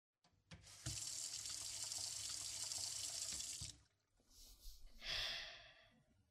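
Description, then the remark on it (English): A tap gushes warm water steadily into a sink for about three seconds, loud, then cuts off; a few shorter splashes and a brief burst of running water follow. “Okay, antiseptic, warm water.”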